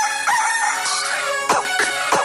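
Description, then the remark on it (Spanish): A rooster crows loudly over a dense, steady musical bed, its call rising and falling, followed by a few quick, sharp accents toward the end. “El Gallo.”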